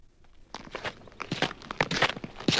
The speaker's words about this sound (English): Since when does a shadow make footsteps?